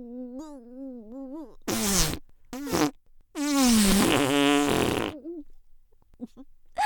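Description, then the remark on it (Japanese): Two short, loud farts followed by a long, wavering, sputtering one, all close up, preceded by a brief wavering vocal hum, with quiet pauses between. “君のお顔におなら出しちゃう。”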